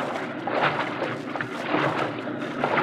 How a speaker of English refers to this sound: Wait, Frank. Stop walking. Hear that? Yes. That's a pump, Bart.